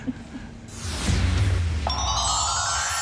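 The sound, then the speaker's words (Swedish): A telephone rings for an incoming call: a bright electronic ringtone that begins partway through and holds steady, following a swelling whoosh and low hum, with no one talking. “Det ringer hos Karlavagnen som snackar drömjobb”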